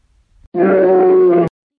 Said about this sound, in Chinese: 熊睡觉前为什么要嚎叫呢？很多动物睡前都有嚎叫的习惯，对他们来说，这是一种放松，也是一种警示，也可能这只是一种仪式感。再或者，熊的嚎叫本身就是熊发明的催眠曲。